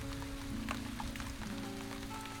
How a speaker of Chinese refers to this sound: 哎，亲爱的，那边是不是下雨啦？我好像听到雨声了。